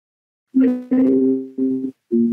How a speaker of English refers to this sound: Sorry, somebody's trying to ring my phone and it's coming out on the computer. I'll just switch my phone off.